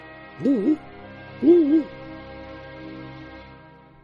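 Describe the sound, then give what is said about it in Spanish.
An owl hoots twice, two wavering, mid-pitched calls about a second apart, over a quiet steady background hum with no talking. “Gracias por cuidarme, señor búho.”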